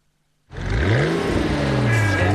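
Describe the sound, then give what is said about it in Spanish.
After a brief silence, a sports car engine roars to life and revs loudly, its pitch climbing, dipping, then holding in a sustained high whine. “cambió el sueño de disfrutar un tremendo auto deportivo por un gran auto para disfrutar con su tremenda familia.”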